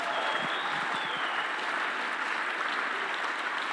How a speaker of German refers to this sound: Gib den größten Applaus Jesus mit Standing Ovation. Come on. Alle Ehre ihm. Den größten Applaus heute Morgen.